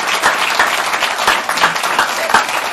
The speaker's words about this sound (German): Vielleicht können Sie sich alle mal klatschen oder erheben, damit auch alle hören, dass wir... Genau.